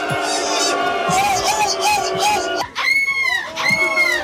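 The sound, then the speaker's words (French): A person at a seagull-cry imitation contest mimics a high-pitched seagull with shrill, wavering cries, repeated in quick bursts over a noisy background with other voices, ending in a couple of sharper squealing calls. “Ah, c'est une mouette aiguë ça.”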